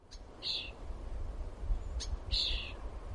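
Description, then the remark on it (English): Two short bursts of shrill, high-pitched chirping from baby birds, not yet ready to fly, in their nest waiting for food to be delivered, a few seconds apart, over a low outdoor rumble. “Baby birds, not quite ready to fly, stuck in their nests, waiting for their food to be delivered.”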